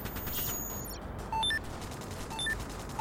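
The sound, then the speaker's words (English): Steady crackling gunfire fills the background like a firefight in a city, with a few short electronic beeps cutting through near the middle and end. No one speaks. “There is about only one more mile of running and avoiding gunshots and grenades.”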